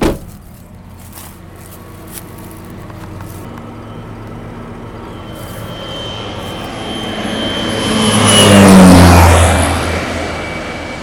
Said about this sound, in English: They're called air tractors, the yellow planes designed specifically for agricultural work. Leonard Felix, the patriarch of Olathe Spray Service Incorporated, is in one of them, zooming over a field of onions, treating for bacterial disease.